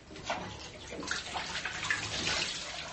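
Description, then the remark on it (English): Water runs steadily from a tap, a continuous hissing splash with small shifts and gurgles as blood and dirt are washed off beneath it. No voices. “Wash the blood and dirt away.”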